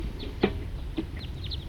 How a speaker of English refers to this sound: And that was a wild bird flying over. It's about 10:15 now. And there appear to be a lot of birds just flying over this general area. Here comes another lone individual. Two birds. Here comes another.